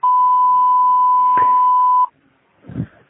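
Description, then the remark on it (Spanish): A voicemail recording tone: one loud, steady, high-pitched beep holding for about two seconds, followed by a brief pause and a short, soft low-pitched murmur. “Por favor, deje su mensaje después del tono.”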